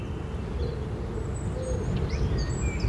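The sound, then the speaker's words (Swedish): Several songbirds chirp and whistle at once in the background, their overlapping calls thin and faint behind a steady low outdoor rumble. “Ja, men det är inte ovanligt att det är både talgoxe, blåmes, bofink, koltrast på en gång.”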